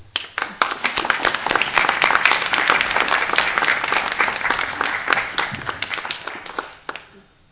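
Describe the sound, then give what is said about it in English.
A church audience breaks into sustained applause for two members on a new journey, many hands clapping densely for several seconds before the clapping thins out and fades away. “So if we can really send them a lot of love on their new journey that they are on, and maybe just applaud them, guys.”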